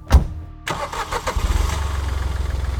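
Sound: car engine starting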